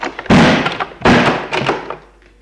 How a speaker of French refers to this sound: Il ferme la porte.